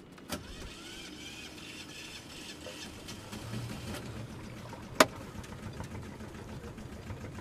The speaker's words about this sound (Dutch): De motor doet het. Ik had het in het begin ook een keer dat hij er heel lang over deed voordat hij start.